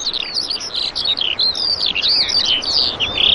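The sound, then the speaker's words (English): Continuous high, warbling bird song and chirps pour out over a big open field inside castle walls, several calls overlapping in a busy, steady stream with no voices present. “It sounds corny almost, really, but the buzz of the insects and the call of the birds.”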